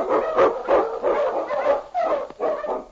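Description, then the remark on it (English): A husky sled dog barks and yelps repeatedly in a steady, excited rhythm, about six loud calls, with a slightly howling, whining tone and no talking. “On, you husky!”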